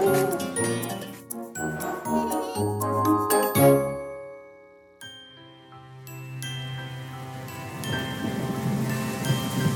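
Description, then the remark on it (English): Steady rain from a tropical storm, with a low rumble of thunder, mixed under tinkling chimes and music. The rain hiss grows fuller and louder toward the end. “Rain, rain, go away. As the country braced itself for the tropical storm”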